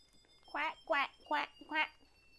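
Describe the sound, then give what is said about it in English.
Four short, nasal quacks in a steady rhythm, fairly loud, sounding like a person's voice imitating a duck rather than a real bird. “A duck. Quack, quack. That's what it is, a duck.”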